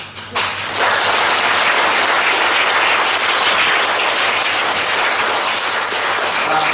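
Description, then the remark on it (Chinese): A crowd bursts into sustained applause, dense and loud, a steady wash of many hands clapping that starts abruptly and holds at full strength for several seconds with no voices standing out. “我要叫你们鼓掌响，还让你们开心笑得出来。”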